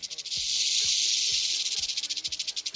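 A rattlesnake about half a metre long, found inside a home oven with a pizza, rattles loudly and continuously: a dense high-pitched shaking that pulses into rapid separate beats near the end, with a few low knocks beneath.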